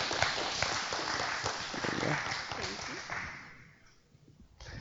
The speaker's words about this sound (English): Y'all can clap.